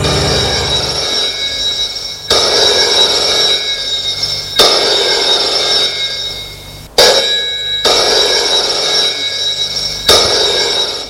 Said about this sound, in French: Un quart d'heure plus tard, le téléphone sonne.